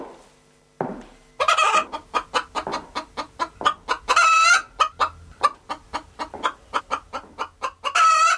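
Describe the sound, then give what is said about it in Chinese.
A rooster and hen cluck in a rapid, steady run of sharp clucks, broken by a few longer squawking bursts, after a brief quiet start, as a woman in a bathroom force-feeds them corn and injects them with tap water to add weight. No voices. “推开门，络腮胡看见自己的女人正蹲在卫生间里，对一只公鸡和一只母鸡进行增重处理。”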